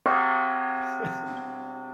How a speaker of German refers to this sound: Yes, warte, ich gebe dir den Einsatz mit dem Gong.